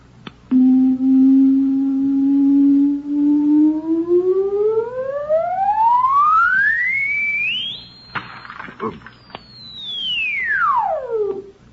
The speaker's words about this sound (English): It produces sound waves with tremendous frequencies. It's made of, you wouldn't understand. Just call it a sound box. Now, see this hole in front of the sound box. It sends out directional sound waves. Listen.